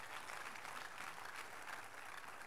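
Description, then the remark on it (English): A crowd applauds as a clap offering to the Lord, a dense, continuous wash of many hands clapping at once with no distinct individual beats, holding an even, fairly loud level throughout with no voices. “Please be seated and give the Lord a big clap offering.”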